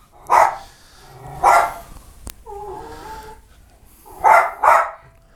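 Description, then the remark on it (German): A dog barks in two quick pairs of loud, sharp barks, with a sharp click and a soft whimpering whine in the pause between them, as its owners put on their jackets for a walk in the park. No one speaks. “Der andere Hund ist noch ganz leise, aber das könnte sich erfahrungsgemäß ändern, sobald wir außerhalb der Wohnung irgendeinem Lebewesen begegnen.”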